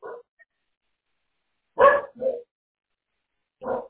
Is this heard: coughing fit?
no